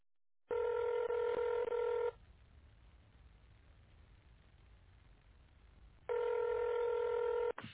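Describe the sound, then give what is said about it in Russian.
Telephone keypad tones dialing an extension on the phone line of the company Nevsky Paint and Varnish Plant (Невский лакокрасочный завод): a quick run of steady, bright beeps lasting over a second, then several seconds of faint line hiss before another sustained burst of tones. “Пожалуйста, наберите добавочный номер абонента или дождитесь ответа секретаря.”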